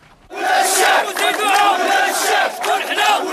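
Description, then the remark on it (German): Danone Morocco employees protesting and shouting together loudly and continuously, fearing for their jobs, many raised voices overlapping in an angry, chant-like roar that surges and dips over a few seconds. “Sie schreien, weil sie um ihre Jobs fürchten. Hier protestieren Mitarbeiter von Danone Marokko.”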